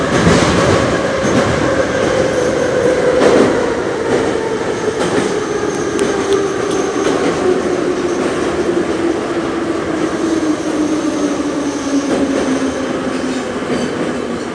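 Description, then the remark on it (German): A Moscow metro train in Russia rumbles along at steady loudness, its droning motor tone slowly falling in pitch while wheels rattle and clatter with brief squeals and clicks over the tracks. No voices are heard. “Die Moskauer Metro gibt mir das Gefühl, jetzt in Moskau auch angekommen zu sein.”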